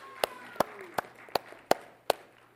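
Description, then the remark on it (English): Six sharp, evenly spaced hand claps ring out in a slow, steady rhythm, each one crisp and bright, over a faint low hum and soft background murmur, applause for a young volunteer and her father called up from the crowd. “Let's give them an applause here, all right?”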